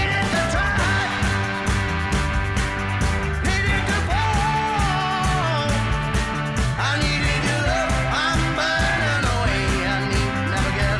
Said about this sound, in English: fits right into the Stax collection, full of tambourines and ecclesial howls and shouts.